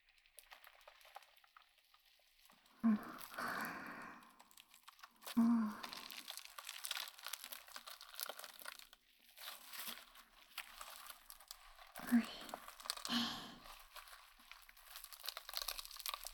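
Styrofoam squeaking and scraping against a microphone, a steady crackly, crunchy texture punctuated by a few louder, sharper rubbing bursts, with no talking over it.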